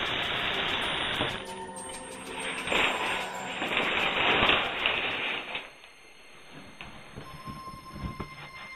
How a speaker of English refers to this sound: Just a nice, relaxing shower.